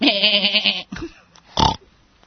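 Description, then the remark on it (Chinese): A single loud sheep or goat bleat with a quavering, nasal tone lasting under a second, followed by a short burst of noise and quiet. “做咩你今日又整多只嘢嚟咁？你唔掂喎，你咁 整一只羊嚟啊嘛，系嘛？”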